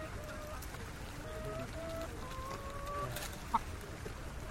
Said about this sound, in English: Their cargo consisted of chickens in stacked cages, and the chickens were making the most unearthly, unchicken-like mewling